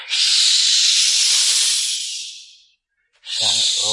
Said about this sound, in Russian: Гуси обступили Нильса и шипели ему в самое ухо.